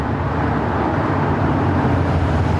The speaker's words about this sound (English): Later, Bob drives his convertible through a residential neighborhood.